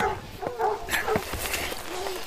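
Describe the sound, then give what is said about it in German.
Several hunting dogs bark and whimper excitedly, short yelps and whines overlapping in a restless, irregular burst. “Nehmt eure Hunde da weg.”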